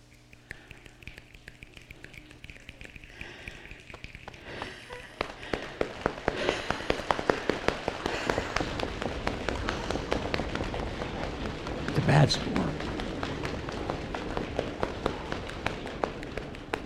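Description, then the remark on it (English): An audience imitates a building rainstorm, soft rubbing giving way to scattered finger snaps that thicken into a dense, loud pattering of snaps and slaps, peaking before easing slightly. “so we'll build up gradually to an intense storm, and then we'll let off.”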